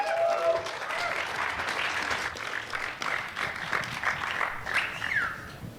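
Steady applause from an audience, a dense wash of many hands clapping at a fairly even level for several seconds, with a few voices faintly mixed in.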